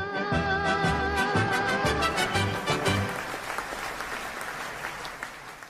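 A song's final sustained notes ring out for about three seconds, then give way to steady clapping from a couple of people that continues alone to the end.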